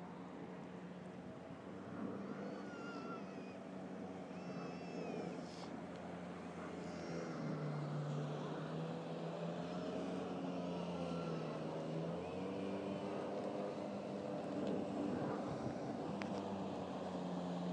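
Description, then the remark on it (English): A boat engine drones steadily on the river, its low rumble gradually growing a little louder as it draws nearer, with faint chirps and outdoor ambience over the top. “I hear a boat on the river.”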